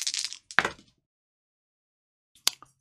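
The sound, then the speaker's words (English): Dice used for Firefly game demos clatter across a hard surface: a quick rattling burst ends in a sharp clack, then after a silent pause a couple of brief clicks as they settle, one showing a 1. “6, and I did roll a 1.”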